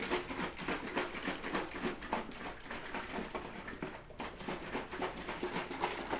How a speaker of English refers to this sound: I have a strawberry and banana, like, fruit drink, so we're gonna shake it up.